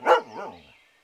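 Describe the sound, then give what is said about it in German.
A dog barks once sharply, then gives a softer, wavering second bark that quickly trails away; clear, with no voices. “Damit keiner heimlich ins Paradies eindringen konnte, ernannte Gott den Hund zum Wächter.”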